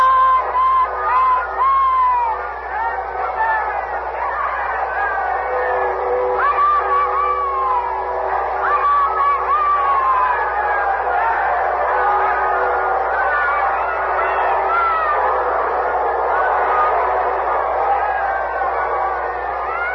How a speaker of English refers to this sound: The people are crushing against the gates of the castle, shouting for a view of Queen Elizabeth. Huge bonfires lit last night are still merrily blazing. We'll open our microphones outside now and let you hear the crowd. Listen.